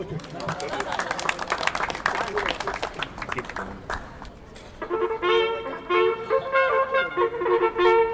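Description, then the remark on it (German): An audience claps in a dense, steady burst of applause for about four seconds; it fades and gives way to loud, sustained, brassy musical tones. “Ein Applaus.”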